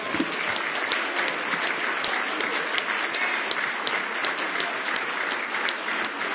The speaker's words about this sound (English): Praise the Lord. Let's give the Lord a hand clap of praise again as we